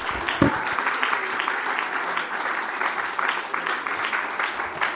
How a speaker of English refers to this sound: In Jesus' name, let's give the Lord a hand clap of praise before we're seated.